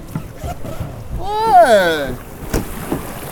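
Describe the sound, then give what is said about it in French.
A group paddles a raft, the paddles dipping and splashing in water in a few irregular strokes over a breezy outdoor background, while a voice lets out a drawn-out call partway through. “Et si vous voulez qu'on survive à cette aventure cet après-midi, va falloir qu'on envisage de pagayer un peu plus comme ça.”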